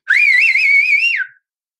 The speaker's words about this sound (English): Like, I'm pretty comfortable shouting annoyingly loud. The more off key, the better. And I'm pretty comfortably whistling really loud.